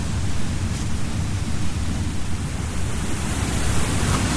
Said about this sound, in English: And there's water running on the path. We're basically wading through, almost through a little stream here. Can you hear that? The water in the background? Pretty loud rumble.